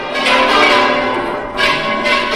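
The church bells of the Real Monasterio in the Huelgas district of Burgos ring out loudly and continuously in the early morning of a local festival, their rich overlapping tones swelling in repeated strikes with a long ringing sustain, with no voices.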